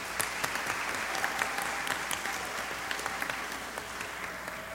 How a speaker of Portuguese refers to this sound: Cerimonial, gostaria de agradecer a presença do deputado estadual Barba, que acabou de chegar. Uma salva de palmas, por favor.